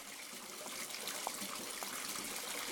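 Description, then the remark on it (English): Water runs steadily into a bathtub, a continuous hissing rush with faint splashy bubbling, even in level throughout, with no voices. “Oh, no, I forgot about my bath.”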